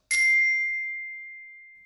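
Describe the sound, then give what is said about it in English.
A single bright bell ding marks a missing word in a listening exercise, with a sharp strike and a clear ringing tone that slowly fades out over nearly two seconds, heard alone. “Now, listen to the text carefully and fill in the words that are missing when you hear the bell again.”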